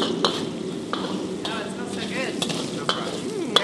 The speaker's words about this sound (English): I slide the chicken out of the wok, most of it anyway. I toss in the hot chilies and Sichuan peppercorns, then ginger and garlic and scallions. Stir fry, on the fire, stir fry.